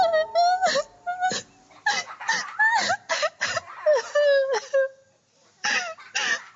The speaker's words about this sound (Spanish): sigue llorando sentada en una de las mesas del bar.